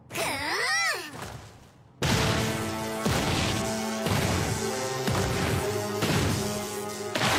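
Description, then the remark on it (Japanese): A warbling, sweeping electric zap gives way to a loud video game punch attack called Electric Bear Punch: heavy crashing impacts land roughly once per second over a sustained tonal hum, with no one talking. “電撃クマパンチ。”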